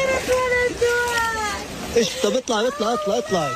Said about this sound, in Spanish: Este era el llanto de una mujer gazatí totalmente rota tras ver su tienda de campaña inundada por las fuertes lluvias